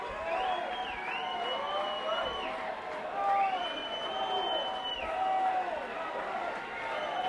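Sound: concert crowd cheering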